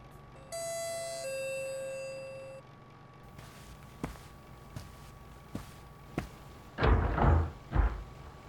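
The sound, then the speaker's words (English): A two-tone doorbell chime rings clearly in the morning as a package is delivered, followed by a few sharp clicks and footsteps before the front door is pulled open with a loud rattle and swoosh, no voices present. “I didn't like the idea of having a servant in the house anyway, so I answered the door myself.”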